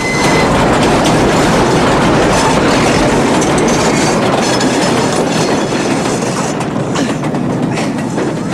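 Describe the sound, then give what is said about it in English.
A train thunders past as it crosses a bridge in fog, a loud, continuous rattle of wheels and cars with rhythmic clatter and faint metallic squeals, shaking the whole bridge, filling the whole clip without any voices. “as the train rattles and shakes the whole bridge.”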